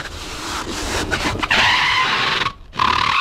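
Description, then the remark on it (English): A hot water bottle with a little puff of air inside is skidded across a kitchen floor, giving a loud squealing screech that builds, cuts out briefly, then squeals again. No one speaks. “So you get your hot water bottle, little puff of air inside, and then right across the kitchen floor.”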